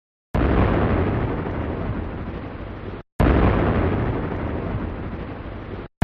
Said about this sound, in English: There, he knocked on the door three times with a giant fist.